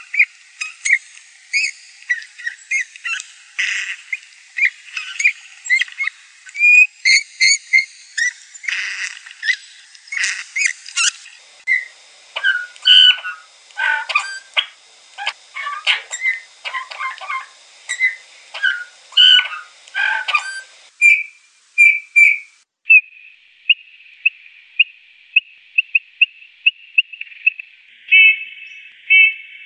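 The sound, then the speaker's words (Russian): A bullfinch sings among snow-covered trees, stringing soft piping whistles with creaky, squeaky notes in a busy stop-start run, then ending on a longer, thin, wavering whistle, with no talking. “А на самом деле еще лучше они слышны, и их меланхоличные свисты, фью-фью, выдают их пребывание еще задолго до того, как мы их увидим.”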